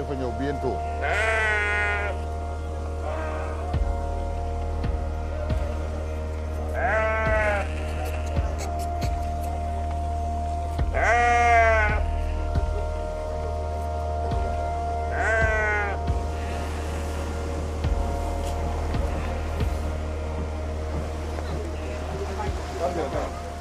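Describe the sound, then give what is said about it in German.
Sheep, traded as a kind of currency during the Feast of Sacrifice, bleat four times at fairly regular intervals, each a wavering, nasal cry, over a steady low engine-like drone with occasional clicks and knocks in the background. “Besonders jetzt, während des Opferfestes, handelt man mit Schafen.”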